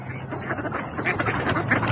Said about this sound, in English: Look at those ducks over there. Let's feed the ducks.